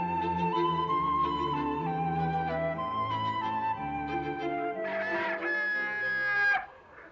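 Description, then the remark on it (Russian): A busy poultry yard: hens cluck continuously in a noisy chorus while a rooster crows loudly near the end, the sound dense and steady throughout with no talking. “Скоро добрались и до птичьего двора. Батюшки, что тут был за шум и гам.”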